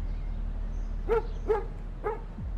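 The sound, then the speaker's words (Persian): A dog gives three short whining barks, evenly spaced about half a second apart, over a low steady background hum. “اون یه سگ جدیده، ولی تو خیلی چیزا میدونی نه؟”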